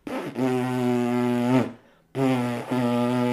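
A person buzzes their lips in two sustained, steady low-pitched bursts separated by a short pause, the first step in learning to blow a shofar. The second burst briefly breaks midway. No talking.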